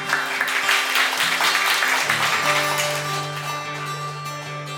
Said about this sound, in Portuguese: Uma salva de palmas pra vocês, vocês merecem.